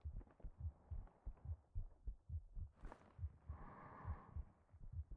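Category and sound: human body sound, heartbeat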